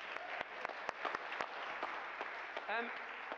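A crowd breaks into steady, dense applause, many hands clapping at once, with a brief rising vocal whoop near the end.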